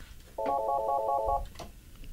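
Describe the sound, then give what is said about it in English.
A single electronic telephone ring for an incoming phone call, a bright warbling trill lasting about a second, clear, followed by quiet room tone with no one speaking. “We got a phone call coming in.”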